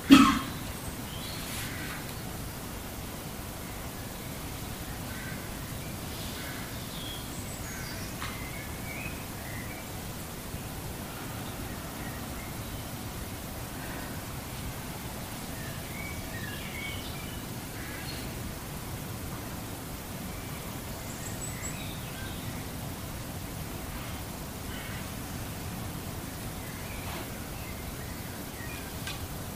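Faint, scattered bird chirps come and go over a steady, hissing outdoor background, the calls irregular throughout, with no one speaking.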